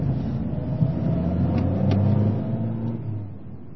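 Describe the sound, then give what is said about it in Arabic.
A taxi's engine rumbles steadily with a low hum and slight revving swells over a few seconds of street noise, as a man in the street stops the taxi and tells the driver his destination, the Hotel Europa. No one speaks. “رجل يقف في الشارع ويوقف سيارة أجرة ويقول لسائقها أين وجهته؟”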